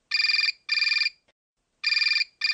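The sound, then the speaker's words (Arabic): A telephone rings in the middle of the night or the early morning hours, in clear double bursts, two quick trills, a pause, then two more, loud with no voices around it. “في منتصف الليل أو مع الساعات الأولى للصبح يرن جرس الهاتف.”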